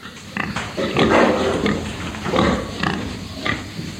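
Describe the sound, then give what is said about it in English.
Several big, still-growing pigs grunt and snort in a farm shed in hot weather, a busy overlapping chorus of short rough calls over a steady background hum. “they're still growing and growing bigger, so my shed will be too small for these big pigs at the moment, and that's the problem, especially when you see at the moment the hot weather makes it not very easy to keep them very comfortable in your sheds.”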